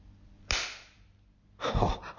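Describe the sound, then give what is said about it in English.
A sharp, crisp spanking slap cracks out against quiet, followed a second later by a second, louder and longer smacking burst. No one speaks. “You want more spanks, do you?”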